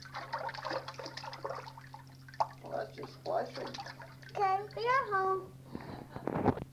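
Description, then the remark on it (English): A child makes splashing and swooshing sound effects with their voice while pretending to swim, mixed with watery swishes and warbling vocal sounds, over a steady background hum. “That's just splashing.”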